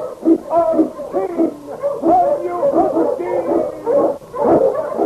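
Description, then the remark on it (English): Eskimo sled dogs, with the lead dog King, howl in a loud, sustained chorus on the trail in the Yukon, several wavering voices rising and falling and overlapping for a few seconds, with no one speaking. “The Wonder Dog King, swiftest and strongest of Eskimo lead dogs, blazes the trail through storm and snow for Sergeant Preston as he meets the challenge of the Yukon.”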